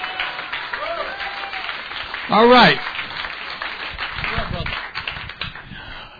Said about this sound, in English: Amen, amen. Let's give the Lord a clap opportunity. Thank you, Lord.